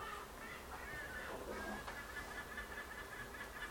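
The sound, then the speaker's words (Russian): A flock of seagulls keeps up a continuous chorus of squawking, laughing calls, overlapping with steady outdoor background noise and no one speaking. “Чайки ржут, видите, как?”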